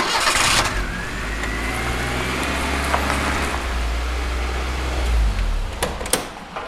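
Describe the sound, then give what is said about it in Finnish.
The engine of a small old Fiat car, which is to be built into a horse cart, turns over and settles into a steady, loud low rumble for several seconds, with a few sharp clicks and knocks near the end and no voices. “Se on tämmöinen pieni fiatti.”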